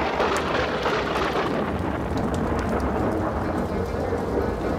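thunderstorm with rain

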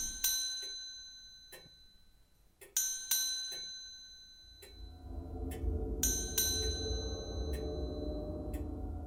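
bell ringing

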